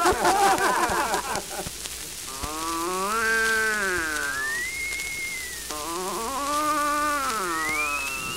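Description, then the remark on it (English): A voice imitates an Irishman snoring in upper 7: two long, drawn-out groaning snores, each bending up and down in pitch and ending in a thin rising whistle, after a brief rough burst at the start. “He's snoring in upper 7, sir.”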